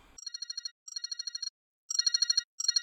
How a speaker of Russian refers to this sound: Телефонный звонок от Вадика раздался как нельзя кстати.